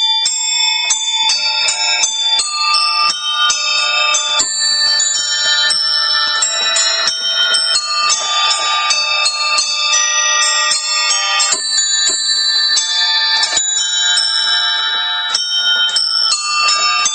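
A bright, ringing melody played by a musician in a wheelchair on a kolokolina, a piano combined with a collection of bells, with chiming tones tumbling quickly one after another, loud, with no voices over it.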